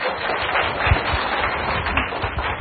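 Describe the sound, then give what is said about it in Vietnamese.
The assembly at a Buddhist Dharma gathering claps steadily throughout to welcome a member invited up to read a question to the teacher, a dense, continuous patter of many hands at a fairly even loudness, with no voices heard over it. “Xin quý đại chúng cho em một tràng pháo tay.”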